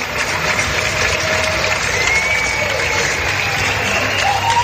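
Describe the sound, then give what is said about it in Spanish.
Sustained applause from many people clapping together from balconies across Spain at 8 in the evening during the coronavirus pandemic lockdown, honouring frontline workers; dense and steady throughout, with an open-air feel and a few faint whistles rising above the clapping. “Son los aplausos, esos que se repetían cada tarde a las 8 durante los meses más duros de la pandemia.”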